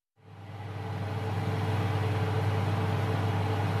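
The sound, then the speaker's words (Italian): Large ventilation fans regulating the airflow in a hall in the industrial zone of Kiel, Germany, 90 km north of Hamburg, start up and settle into a steady, loud mechanical roar, with a deep low hum and faint tonal whine underneath, and no voices. “Grandi ventilatori regolano il flusso d'aria in un capannone situato nella zona industriale di Kiel, 90 km a nord di Amburgo.”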